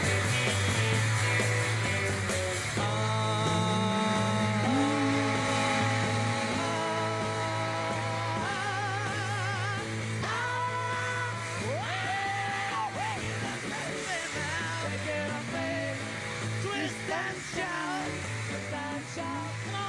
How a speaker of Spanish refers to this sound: Ahora empiezan, ¿eh? Y ahora. Es que fíjate que gritos.